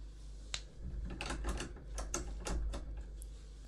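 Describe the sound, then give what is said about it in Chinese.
A key rattles and turns in an office door lock: a quick run of sharp metallic clicks and jingles, with no one speaking. “办公室关门了，没关系，还好我有钥匙。”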